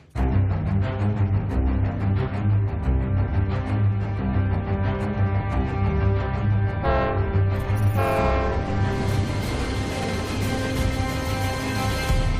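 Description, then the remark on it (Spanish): A train rumbles past on the tracks with a loud, sustained horn blaring over the steady roar, the rolling rail noise filling the whole stretch with no talking. “Pasaron 2 trenes, el primero era demasiado de noche y ni siquiera se percató de que había un cuerpo en la vía, y el segundo tren es el maquinista el que lo ve, ve el cuerpo, intenta frenar, no puede, y es el que da el aviso inmediatamente del hecho”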